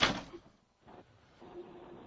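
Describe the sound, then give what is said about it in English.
A door swings shut with a sharp thud, followed by a couple of softer rattling knocks as it settles in the latch. No one speaks. “I got to close the door here so I can hear what the fuck I'm doing here.”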